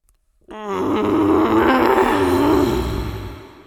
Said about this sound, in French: Pourquoi il grogne si fort?